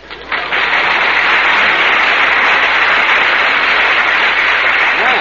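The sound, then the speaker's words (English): Sustained audience applause after a recited Easter verse, a dense crackle of many hands clapping at once, loud and steady from start to finish with no talking over it. “Well, you got a nice hand there, Mary, but you asked for it.”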